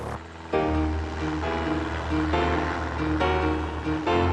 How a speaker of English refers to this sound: It flies. It really flies. What a great plane.